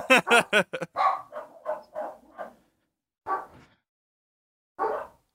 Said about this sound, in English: There's a lot of like dogs barking around here, so I'm sort of keeping myself on mute.